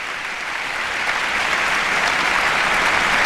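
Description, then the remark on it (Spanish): Sustained applause from a concert audience and the OBC orchestra, with conductor Ernest Martínez Izquierdo seated among the musicians, after pianist Nikolai Luhansky's encore following Rachmaninoff's Second; a dense, steady wash of clapping that swells slightly louder as it continues, with no voices. “Los músicos de la orquesta siguen aplaudiendo y el propio Ernest Martínez Izquierdo, sentado en las filas junto a los músicos de la OBC, aplaudiendo la interpretación de este espléndido pianista.”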